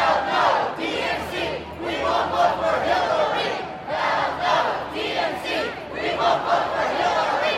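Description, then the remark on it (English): A large crowd of pro-Bernie Sanders protesters chants and shouts together in the streets of Philadelphia in summer heat of 95 degrees or more, loud overlapping voices rising and falling in rhythmic surges with no pause, a dense roar of many people protesting. “those pro-Bernie protesters were out on the streets yesterday, 95 degrees or more, a big crowd of Bernie supporters gathered in the middle of the city.”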